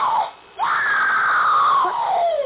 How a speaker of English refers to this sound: What's that? I beg your pardon. I heard it. I thought I heard... I heard it, too. Someone screamed.